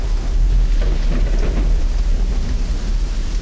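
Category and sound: nature, heavy rain pouring down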